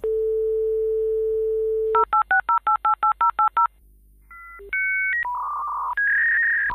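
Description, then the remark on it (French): A 56K dial-up modem connecting to the Internet: a steady dial tone, a quick run of about ten touch-tone beeps, then shifting handshake tones and rising electronic squeals, loud with no voices. “Ce son, c'est celui d'un modem 56K, un des premiers appareils pour se connecter à Internet pour le grand public en Allemagne dans les années 90.”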